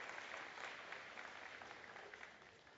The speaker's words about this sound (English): So, yeah, you can clap. I don't mind that.